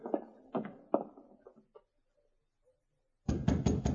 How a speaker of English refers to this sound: It was dawn of the following day when Glenn White got up to answer a knock on the cabin door. He opened it to find Sergeant Preston and King standing outside.